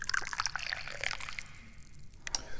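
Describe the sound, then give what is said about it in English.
Gingin Mei tea pours into a cup in a steady trickle, with bright splashing and bubbling that thins out midway before a brief final splash. No one speaks. “And to help alleviate my sinus problems, I like to drink tea. So let's pour some tea.”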